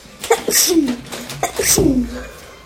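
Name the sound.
sneeze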